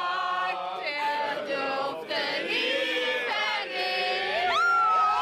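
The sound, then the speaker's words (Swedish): A large crowd of people on the west side cheers and whoops continuously, welcoming others with hugs, many overlapping excited voices shouting and calling out at once, loud throughout, with applause mixed into the roar. “Och folk står på västsidan och tar emot med kramar, jubel och applåder och allmän glädje och förbrödring.”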